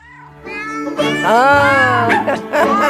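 Cat meows pitched and strung together into a sprightly jingle, loud, several drawn-out meows following one another over a steady musical backing.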